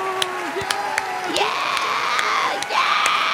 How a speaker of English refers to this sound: Oh, is that the arena applauding again? Whoa. That was the arena, yeah.